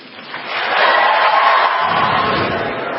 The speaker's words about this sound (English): She got some applause for that line